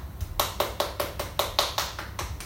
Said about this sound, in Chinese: 大家说对不对？对，大声一点，拍手。